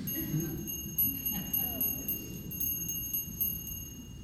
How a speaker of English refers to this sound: What good is a bell if you don't ring it, right? What good is a bell if you don't ring it?